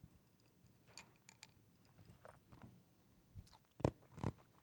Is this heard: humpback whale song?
no